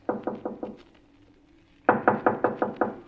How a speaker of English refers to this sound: Now knock. If a man answers, tell him you're checking the wine list or something.